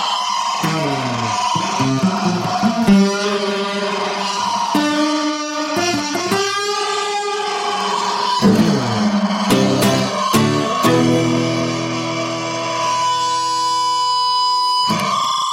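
Distorted electric guitar, played live on France Inter radio as part of an IRCAM festival, plays loud, gritty notes and chords, then builds into a sustained, steady Larsen feedback howl near the end, with no voices.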